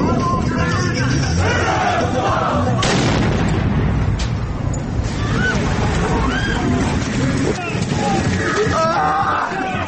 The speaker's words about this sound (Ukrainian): Це навіть можна почути з криків людей про допомогу. Давайте послухаємо, як власне відбувся цей вибух.